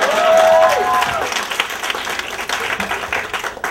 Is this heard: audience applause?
yes